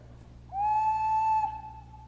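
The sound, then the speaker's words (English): A small bird-shaped toy whistle is blown once, giving a steady, clear, fairly high tone for about a second that then drops to a softer, lingering note. No one speaks. “It is a whistle.”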